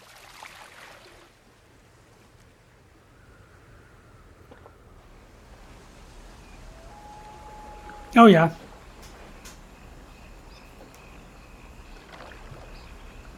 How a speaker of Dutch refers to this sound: Kabbelend water.